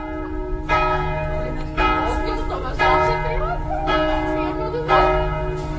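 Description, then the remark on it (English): Church bells chime across the main square of the town of Skalica, Slovakia, in the early evening, each strike landing about once a second and its ringing tone lingering into the next, with faint outdoor murmur underneath. “It's only once we walk across the border into Slovakia that I start perking up a little, enough to enjoy an early evening beer in the town of Skalica as the church bells chime on the main square.”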